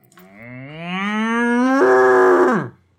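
A single long cow moo, rising in pitch and swelling loud before cutting off abruptly, heard alone with no talking.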